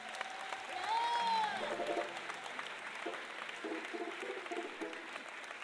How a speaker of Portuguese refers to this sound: receba uma salva de palmas do povo da Vela.